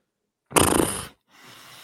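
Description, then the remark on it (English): A person imitates horse noises: one loud, rough snorting blast of about half a second, then a brief pause and a softer, breathy, hissing exhale. No speech is heard. “Making horse noises.”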